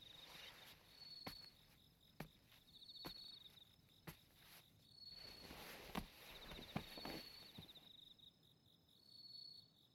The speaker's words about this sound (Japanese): 今宵は心地いい風なので、障子は少し開けておきましょう。鈴虫の音色もいい子守歌になりますので。